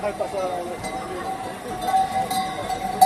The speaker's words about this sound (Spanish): Las ovejas. Ya te suena un poquito, ¿no? Las ovejas, sí. Bueno, son los cencerros de más de 1.500 ovejas que han tomado literalmente Madrid para celebrar los 600 años de la fiesta de la Transhumancia,